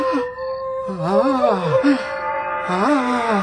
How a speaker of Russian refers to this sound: Кто-то плачет, то ли стонет под полом.